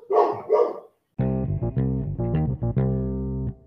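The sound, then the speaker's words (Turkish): A dog in a neighborhood gives two quick, loud barks, setting off the other neighborhood dogs, then a sustained, buzzy run of steady pitched tones follows in short segments, with no one talking. “Mahallenin diğer köpeklerini de gaza getiriyor. Havlamaya başlıyor, sonra hepsi havlıyor, sonra susmuyorlar 10 dakika.”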